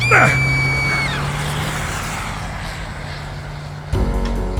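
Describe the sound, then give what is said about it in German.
A car engine hums steadily as the car drives around a street corner, with a brief rising whine at the start and a clunk near the end as the drone shifts. “Ein Wagen fuhr um die Ecke, als der Kerl mich schubste.”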